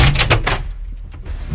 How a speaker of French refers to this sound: Le directeur nous ouvre la porte.